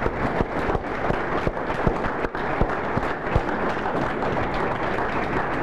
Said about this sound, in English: I think they deserve a special hand of applause.